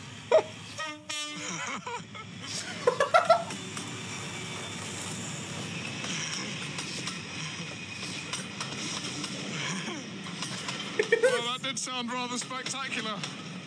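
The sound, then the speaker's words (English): A train horn honks in two loud, brassy bursts, one early and one near the end, over the steady rumble of a passing train. “Bro, they'll honk and he'll be like, ah!”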